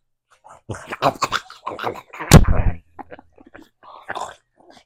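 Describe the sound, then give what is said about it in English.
A person imitates a pig eating with a run of wet, growling snorts and grunts, peaking in one harsh, loud burst midway before trailing off into softer snuffling noises. “Show me how a pig eats.”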